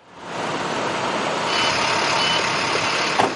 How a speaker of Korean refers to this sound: 그리고 금요일 새벽 큰 트럭에 신선한 채소를 가득 싣고는 대도시의 복잡한 도로를 지나 윈스턴 앤 스트론 법률회사 건물에 도착하지요.